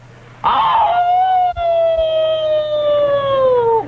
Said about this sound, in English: An old wildcat howls in the woods.